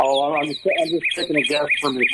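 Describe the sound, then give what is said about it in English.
A northern cardinal sings a steady series of clear, repeated whistled notes, about three per second, heard just beneath a man talking throughout. “It is a cardinal.”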